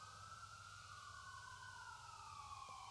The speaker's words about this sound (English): I think as long as we do outdoor church, we're going to pray for every ambulance that goes by, yeah?